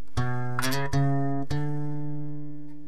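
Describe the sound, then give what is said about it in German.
A bell rings out in the background at 12 o'clock with several quick strikes, each leaving a steady, humming tone that hangs on and slowly fades. No one speaks. “Trotz der Glocke da hinten?”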